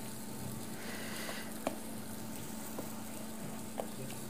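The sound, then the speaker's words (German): Plantain slices sizzle as they are fried in a pan with a steady, even hiss and a couple of sharp pops, fairly quiet, with no talking. “Genau, die Soße köchelt dann einfach so vorher, also vor sich her, und dann hat man einfach Zeit, die Bananen schon ein bisschen anzubraten.”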